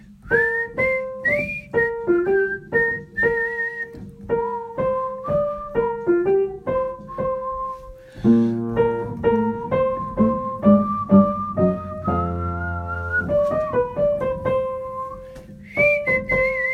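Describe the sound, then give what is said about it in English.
A clear whistled tune plays in two short melodic phrases starting at bar 19 of a song, the second beginning about halfway through, over a steady instrumental accompaniment with a low bass line. “Now there's two little phrases of whistling, starting at bar 19.”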